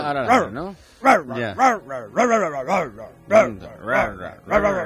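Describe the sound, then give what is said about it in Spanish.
A dog barks repeatedly, about nine loud, tonal yelping barks in a quick, uneven rhythm with short gaps between them. “Ahora ladra, ¿no?”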